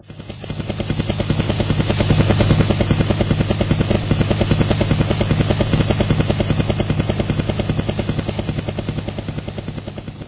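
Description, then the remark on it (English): A helicopter, received as a present, has its rotor chopping in a fast, steady beat with a low engine drone beneath, loud, holding constant for the whole stretch with no voices. “Ah, the possession I have always wanted. A helicopter.”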